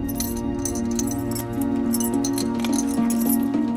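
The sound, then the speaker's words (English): Keys rattle and clink against small glass jars on a long coffee table in a living room as someone sorts through them, a steady jangle with bright metallic ticks over a constant low hum and no talking. “Kent sorts through some keys in little jars on a long coffee table”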